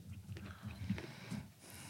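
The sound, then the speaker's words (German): Quiet chewing with soft, irregular mouth noises and small wet clicks over about two seconds, with no talking. “Das ist ja nur ein Kauen.”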